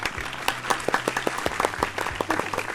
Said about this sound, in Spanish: Y nosotros esperamos que esta información sea suficiente para complacer a Sofía, la hija de doña Marina Benavides, a quienes le dedicamos este aplauso.